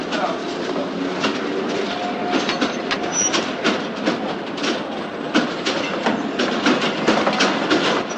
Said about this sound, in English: Molinari waves from the platform as the train pulls out.